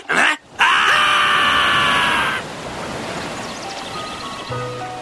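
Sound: rushing stream water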